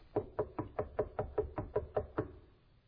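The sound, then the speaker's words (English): A quick, steady series of about ten sharp knocks on a wooden surface, evenly spaced, with no talking, then fading into quiet. “And he's knocking.”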